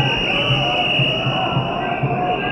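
Shrill, steady whistles, sold at the march, shrill without pause over a dense crowd din at a street demonstration. Their high piercing tones hold level through the whole stretch amid a rumble of voices.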